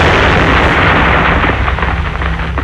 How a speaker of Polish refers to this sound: Tak kończą się nieostrożne zabawy z materiałami wybuchowymi